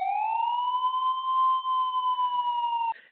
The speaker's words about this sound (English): give you a little bit of that siren right there for a minute